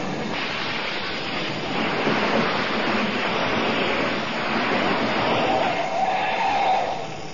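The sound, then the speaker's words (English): An express company's truck pulls up with a steady, loud rumble of engine and road noise that swells slightly before tapering off at the end. No one speaks. “Clona should be here with his truck any minute. Hey, here he comes now.”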